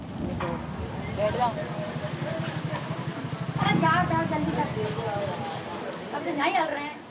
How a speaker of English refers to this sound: In Bundi, rain cools the hot asphalt. People seek shelter under the tea stands and the awnings of houses.